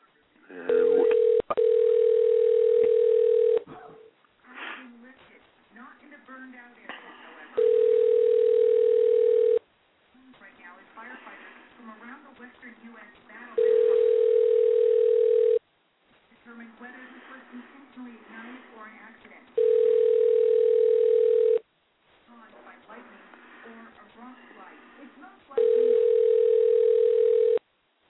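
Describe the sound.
A telephone line rings through the receiver as a radio host tries to reach a boxer by phone: a steady, low electronic tone sounds five times at regular intervals of about six seconds, with muffled talking and line noise filling the gaps, before the call goes to voicemail.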